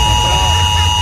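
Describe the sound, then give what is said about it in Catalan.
An alarm going off: a steady, unbroken electronic tone holding several high pitches at once, loud and constant for the whole moment, over a low rumbling murmur. “Ara s'ha disparat.”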